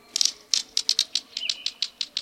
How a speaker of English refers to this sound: These brightly patterned, bushy-headed birds with big bills are a treat to see. Like two pebbles clicking together, the green kingfisher's quiet call can be heard at wooded streams and ponds.